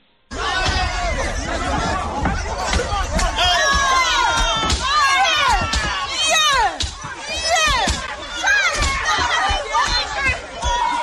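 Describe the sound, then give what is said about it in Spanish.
A loud, chaotic crowd of rioters shouting and yelling in a continuous roar as they clash with police in Brixton, south London, throwing bottles and attacking patrol cars, with sharp bangs and thuds breaking through the din throughout. “llegaron los agentes por segunda vez, les recibieron lanzando botellas, atacando los coches patrulla y agrediendo cuerpo a cuerpo a la policía. Así sonaba.”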